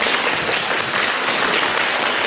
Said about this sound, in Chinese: 让我们有掌声感谢卢台长为我们看图腾。